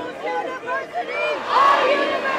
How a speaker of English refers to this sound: The UC Davis Quad, bulging with humanity and buzzing with noise, went quiet when Chancellor Linda Katehi stepped before a microphone.